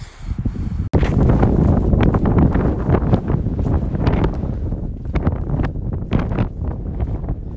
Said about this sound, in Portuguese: Que merecia gravar o vento aqui onde eu tô agora. Caramba!